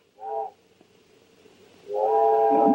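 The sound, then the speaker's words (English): The whistle of the 5:45 train for Boston sounds twice in the early morning after rain: a short, steady blast, a pause, then a longer, louder blast holding a rich, chord-like mid-pitched tone that continues to the end. “There's the 5:45 for Boston.”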